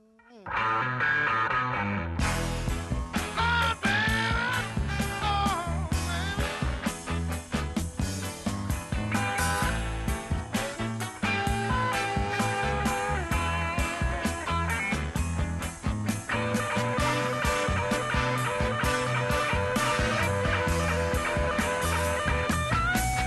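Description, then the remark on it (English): Loud, gritty overdriven electric guitar, a 355 plugged into a Fender amp on the normal channel with no reverb and turned all the way up to 10, playing a driving rhythmic riff with a full band behind it, sustained and continuous from start to finish with no talking. “Sling that 355 over his shoulder and plug into a Fender amp on the normal channel, no reverb, and just turn it all the way up to 10, and then he would govern the guitar just by how hard he picked it.”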